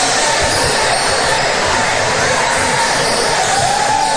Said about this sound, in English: He says, where's the applause for me? Yeah, I think they were giving it to him.